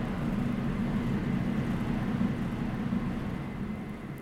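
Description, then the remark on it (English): Pancakes sizzle on a griddle in a large commercial, industrial-sized kitchen in a steady, continuous crackling hiss, layered over a low rumbling hum, with no voices and no pauses throughout. “We're gonna just put pancakes down on the griddle. And starting to sizzle there.”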